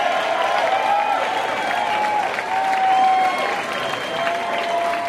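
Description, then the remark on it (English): A large live concert audience applauds steadily with scattered cheers and whoops rising above the dense clapping as a band walks on stage and the house music dies, a sustained, loud wash of crowd noise throughout. “But as soon as that house music dies, I think you'll hear this crowd.”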